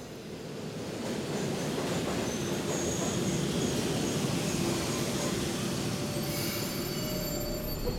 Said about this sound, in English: this subway picked us up at 42nd Street